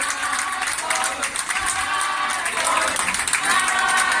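A crowd applauds steadily in a dense, continuous patter of clapping, mixed with cheering voices chanting together, holding a loud, even level throughout.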